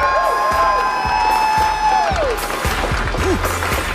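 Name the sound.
crowd cheering and applauding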